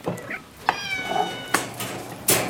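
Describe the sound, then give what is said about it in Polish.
A disabled female cat awaiting adoption meows, one drawn-out, tonal cry with a couple of shorter mews around it, punctuated by a few sharp clicks or knocks. “Już, już, już. Niosę. Proszę bardzo. Miau, miau, miau.”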